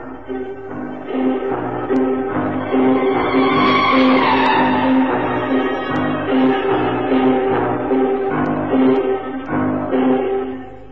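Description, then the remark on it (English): A heavy bus engine drones steadily and loudly throughout on a bus ride to the old Brompton Road, with a strained, whining grind of gears swelling in the middle before settling back into the continuous rumble. No voices. “I took a bus to the old Brompton Road, and then I wished I hadn't.”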